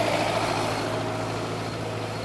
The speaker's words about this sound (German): Ja, super. Ein Trecker.